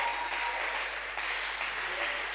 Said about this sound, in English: Oh, come on, clap, clap, clap. You're not clapping, clap.